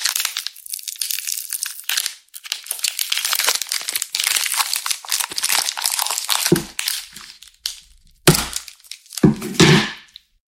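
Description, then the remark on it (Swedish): A chocolate bar that has been kept in the fridge is broken apart: several seconds of crinkling wrapper, then three or four sharp, dry snaps and cracks spaced a second or so apart, with no talking. “Okej, minus till att det inte var så bra brytbitar. Den har legat i kylen.”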